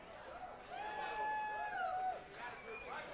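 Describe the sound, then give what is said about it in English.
A concert audience in Minneapolis applauds and cheers a band from Athens, Georgia, for about three seconds, a steady wash of crowd noise with rising and falling shouts and a sustained whistle above it, fading slightly at the end. “Are you applauding our driving efforts or Athens itself?”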